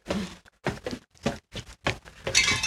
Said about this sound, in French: Ah oui, petit carillon au passage.